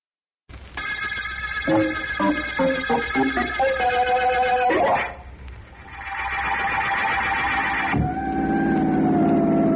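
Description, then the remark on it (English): A loud siren on the district attorney's car wails, its tone stepping and rising then holding steady, over a low engine rumble, with no one talking. “What's the use of being district attorney, Vance, if I can't have a siren on my car?”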